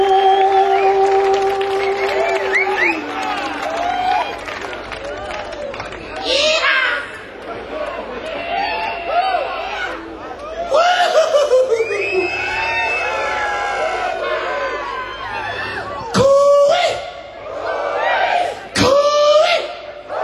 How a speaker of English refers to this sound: Now that is an Australian bush call. If you ever come to Australia and you get lost in the outback, you yell that out, "Cooey!" And hopefully someone will come and find you.